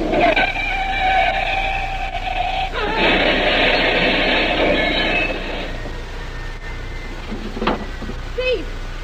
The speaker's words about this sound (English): What happened? A car hit the big tree, smashed to pieces.